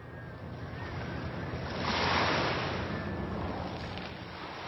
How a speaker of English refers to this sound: Waves are crashing against Front Beach in Unalaska